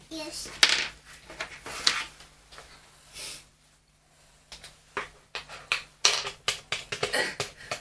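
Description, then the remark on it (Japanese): A string of light, sharp taps from a toy knife striking a cutting board as a child pretends to make a snack, coming in quick irregular bursts, with a child's voice chattering in between. “包丁は？ 包丁？ うん、トントンする 。もうトントン？トントンじゃん。”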